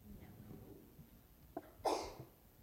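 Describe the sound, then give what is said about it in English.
A single sharp sneeze bursts out near the end, brief, after a stretch of quiet murmur. “Bless you.”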